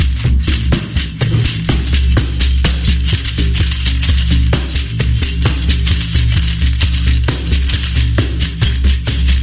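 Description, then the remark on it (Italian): A tambourine with tin jingle discs set all around its wooden frame, played in a steady, fast rhythm, its tin cymbals jingling brightly with crisp metallic hits throughout, loud and continuous over a low, steady hum, with no voices. “Mentre quest'altra invece, che porta i cimbali sono dei dischetti di latta che sono tutti intorno alla cornice di legno e servono per dare un ulteriore ritmo al tamburo.”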